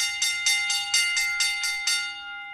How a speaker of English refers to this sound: It's bell lap time here inside the locker room.